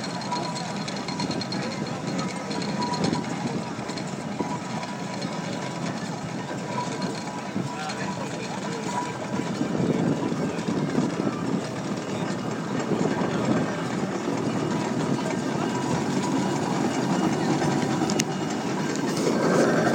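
A split-wheel steam road roller engine runs steadily with a dense mechanical rumble and hiss, growing slightly louder partway through and continuing without a break for the whole stretch.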